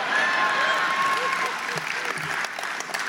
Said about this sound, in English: And in the end, I read something about the way the fuckers drive down here, and everyone applauds together.